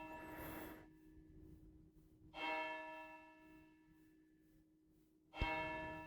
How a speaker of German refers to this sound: Ist echt schön. Was habe ich dieses Glockenläuten vermisst, als hier nach der Flut auch kein Strom, in der Kirche war lange kein Strom, es hat lange nicht geläutet. Das war schon bewegend, als die endlich wieder angefangen haben zu schlagen.